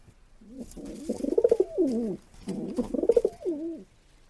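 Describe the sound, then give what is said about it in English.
Two repeated bouts of English carrier pigeon cooing, each a rolling, throaty warble that rises and falls with a fluttering pulse, heard alone and fairly loud. “That sound that you are hearing is that of the English carrier pigeon, and depending on where they are coming from, they might look a little bit different.”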